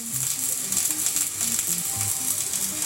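Welding on a steel submarine hull, which holds 900 tons of steel: a steady, crackling hiss that sizzles without pause, with short low tonal blips and hums scattered beneath it. No one speaks.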